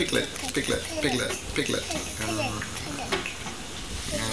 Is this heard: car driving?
no